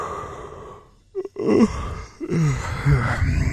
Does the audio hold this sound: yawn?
yes